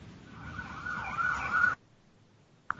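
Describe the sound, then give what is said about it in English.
A fire truck siren wails over low road rumble, growing louder as it approaches, then cuts off abruptly into near silence. “Here goes another fire truck.”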